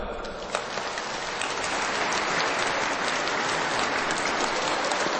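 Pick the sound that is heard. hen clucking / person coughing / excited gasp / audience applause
audience applause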